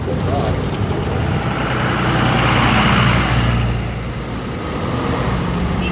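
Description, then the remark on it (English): A heavy jackknifed semi truck's diesel engine rumbles, swelling briefly as its young driver moves it back and forth in the middle of an intersection trying to fix it, with steady roadway traffic noise filling the background throughout. “The young driver's now got the truck jackknifed in the middle of the intersection. He's moving it back and forth trying to fix that.”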